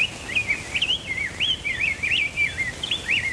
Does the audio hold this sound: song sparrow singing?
yes